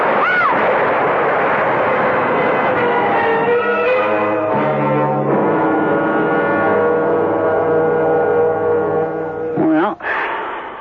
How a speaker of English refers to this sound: Rick, that tree's falling. Rick, the tree! The tree!